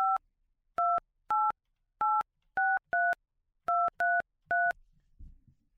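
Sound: telephone keypad dialing tones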